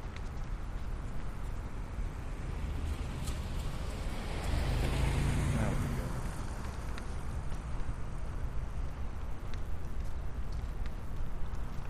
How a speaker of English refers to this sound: There's a car coming up behind us.